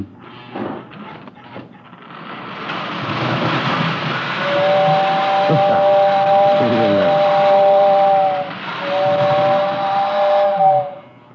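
A steam locomotive whistle sounds two long, steady blasts over a loud, continuous hiss of steam, following a few brief chuffs at the start.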